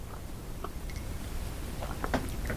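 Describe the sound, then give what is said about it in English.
Quiet sipping of tea: a few soft, wet mouth clicks and a brief slurp, then a gulp, over a low steady hum with no one talking. “Pardon me, time for a sip of tea.”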